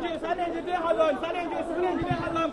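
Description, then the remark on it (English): A crowd of people gathered on a street after an earthquake chatters and murmurs at once, a steady, overlapping babble of talk with no single voice standing out, holding a fairly even level throughout. “Everybody has run out on the street. There are crowds gathered.”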